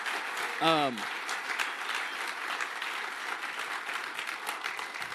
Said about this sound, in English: Let's just give God a good hand for tonight. And come on, let's just start it off right. Let's give the Lord a good hand clap tonight.